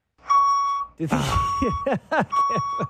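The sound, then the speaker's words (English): A truck's reversing alarm beeps three times, each steady tone lasting about half a second at an even pace. It is loud, and a voice talks over the last two beeps. “Don't back up the truck in my ear.”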